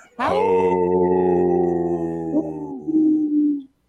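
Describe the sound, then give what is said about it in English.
A person imitates a deep, older-sounding wolf howl: one long, steady, low note held for about three seconds that sags slightly and wavers near the end before stopping, loud. “Do you see, I did a older wolf with a lower voice there.”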